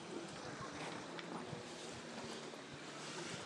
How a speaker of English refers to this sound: Lovely sound of the water